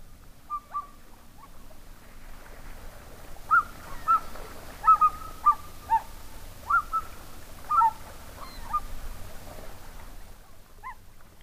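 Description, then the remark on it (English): Loons on the Big Lake in winter give a series of short, barking calls and hoots, about a dozen in an irregular run, moderately loud over a low, steady outdoor rumble, with no talking. “In the following recordings, you can hear loons barking and calling, pelicans flapping the water as they fly off, and gulls overhead following the loons and pelicans.”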